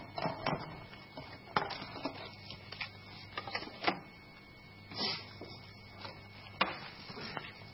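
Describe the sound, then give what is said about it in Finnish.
Irregular bursts of sharp plastic clicks as computer keyboard keys are pressed, some quick taps and some spaced pauses, quiet, with no voices. “Tuntuskohan toinen näppäimistö.”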